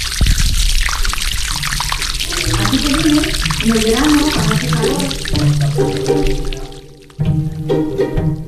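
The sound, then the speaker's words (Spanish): Fresh spring water streams steadily from a fountain, a continuous splashing rush, with voices talking faintly over it and a brief dip in the flow near the end. “Desde luego, como se agradece ese sonido a agua fresca de manantial.”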